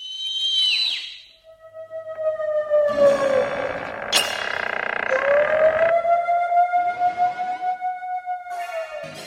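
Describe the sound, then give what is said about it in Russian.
A dragon, Pykhalka, puffs himself up on a balcony and gives a loud, drawn-out whistle holding a steady mid-pitched tone with a slight wavering rise, layered with rasping, breathy bursts, preceded by a short high squeal and no talking. “Пыхалка вылетел на балкон, надулся и как свистнет.”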